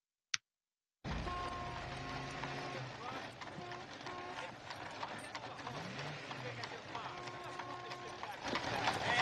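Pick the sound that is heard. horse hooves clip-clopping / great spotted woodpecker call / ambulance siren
horse hooves clip-clopping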